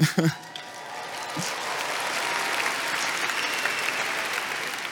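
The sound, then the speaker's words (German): A crowd bursts into sustained applause, a dense wash of many hands clapping at steady loudness for several seconds after a brief voice at the start. “Ich habe gerade nur Wahrheit gesagt und ihr klatscht, sobald ich sage, ich liebe die Schweiz.”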